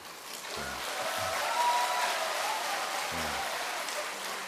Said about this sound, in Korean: 박수 제대로 잘 치십시오.